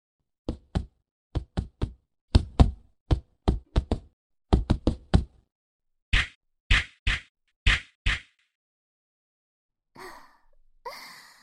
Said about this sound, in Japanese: 最後の方、綺麗に全部入っちゃいましたね。私のパンチ、どうですか、先輩？